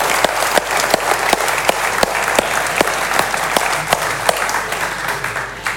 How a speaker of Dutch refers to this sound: Applaus voor deze 1000 bankzitters.